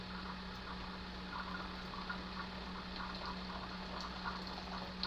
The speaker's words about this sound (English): Okay, looks like I've got another round of hot water to pour into the coffee, and then we'll be about set.